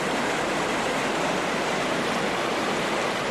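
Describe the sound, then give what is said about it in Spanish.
Water gushes out of street storm drains on Asturias street in Gijón in the early morning after water pipes burst, a steady, forceful rush, a dense continuous roar that stays loud throughout with no voices. “Con esta fuerza salía el agua de los sumideros de la calle Asturias esta madrugada.”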